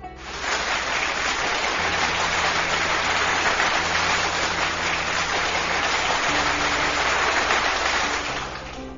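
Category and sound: crowd, applause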